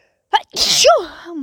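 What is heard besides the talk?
sneeze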